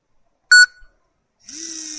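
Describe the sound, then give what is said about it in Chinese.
A short, sharp electronic beep, then after a brief pause a countdown timer starts vibrating in its vibration alert mode, one of three alert modes switched with the lower-right button before a countdown, with a steady buzzing hum that continues to the end. “各位听到有那个震动的声音，再来按。”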